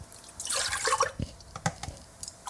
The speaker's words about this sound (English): Pouring the milk in cups into the pot.